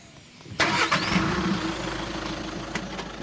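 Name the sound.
car engine starting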